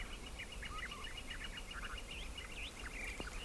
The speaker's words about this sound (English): Those are Gila woodpeckers, and that's a gilded flicker.